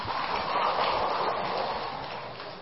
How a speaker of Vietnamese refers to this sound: Cho anh chàng pháo tay.